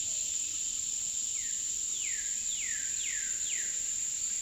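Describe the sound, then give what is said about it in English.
Cicadas keep up a steady, high-pitched buzzing drone on a hot summer afternoon at a prairie park campground near the Kansas border, while a cardinal singing from the tall trees whistles a series of about five descending slurred notes in a regular rhythm over it. No one speaks. “I set up my tent in the park campground and then nap away the hot summer afternoon, serenaded by cicadas and a cardinal singing from the tall trees overhead.”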